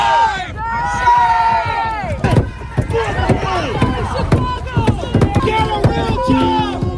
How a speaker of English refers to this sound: People pounding on the windows and doors and the hood of that vehicle as it's inching its way forward.